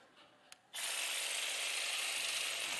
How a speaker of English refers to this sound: Say, I don't know why that preacher's using all those power tools.